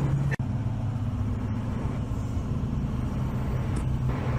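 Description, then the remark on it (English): A steady, droning low rumble of road and engine noise from inside a truck cruising on the highway, continuous and fairly loud, with no voices. “I don't want to, I'm going down the highway, so I don't want to just let open the door.”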